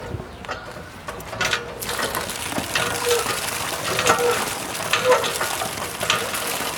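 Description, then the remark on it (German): Sloshing and splashing as water is scooped out of a water-filled hollow at a crossroads, a steady wet crackle with small bursts of splashes running throughout, with no voices. “Da ist schon Wasser drin in der Kuhle.”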